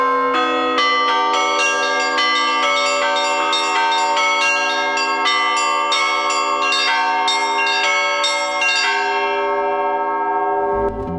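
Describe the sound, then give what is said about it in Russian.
Russian church bells peal continuously from a belfry on feast days, bright overlapping strikes in a rapid rhythmic chime with sustained ringing tones, loud, with no voices throughout. “запрокинув головы, слушали завораживающие перезвоны безмолвной прежде колокольни.”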